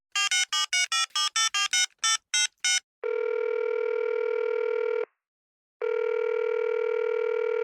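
A quick run of about a dozen touch-tone dialing beeps, then a loud outgoing-call ringing tone sounds twice in long two-second stretches separated by a short pause, with no voices.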